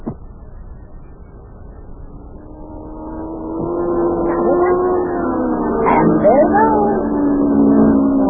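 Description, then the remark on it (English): A race car driven by Yuki whines and roars as it comes around the bend and approaches along the track, growing steadily louder and rising in pitch, then sweeps past with a sharp shift in tone. “Boy, Mayor, that Yuki is really driving that car.”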